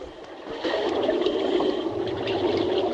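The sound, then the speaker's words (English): A boat carrying men pushes off from a pier through the water, a steady churning and sloshing that swells louder after a brief moment and continues evenly, with no one speaking. “The men climb back into the boat and set off.”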